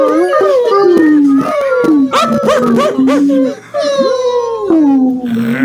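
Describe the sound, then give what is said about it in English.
Several human voices imitate a whining puppy, producing overlapping, wavering high moans and whimpers that rise and fall continuously for several seconds, loud. “Can I get little puppy moans, please?”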